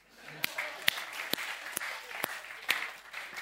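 An audience applauds, in honour of those who could not come, in a steady, dense wash of clapping, with several sharper, louder claps standing out at fairly regular intervals throughout.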